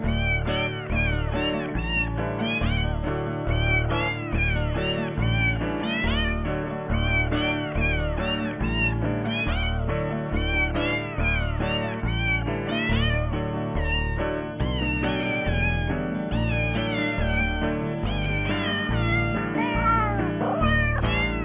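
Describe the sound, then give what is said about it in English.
A steady, upbeat tune built from a long string of pitched cat meows, each mew hitting a different note over a rhythmic backing track that runs continuously and loud, with no talking. “Because what I picture is a whole string of cats singing a different note and somebody down below them pulling on their tails.”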